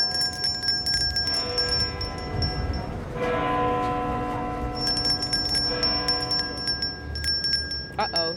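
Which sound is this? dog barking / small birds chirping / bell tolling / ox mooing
bell tolling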